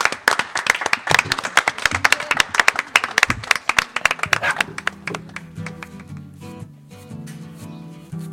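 A small audience claps enthusiastically for about five seconds for the technicians and hosts, dense overlapping handclaps, then the applause fades and gives way to soft music with a steady low tone.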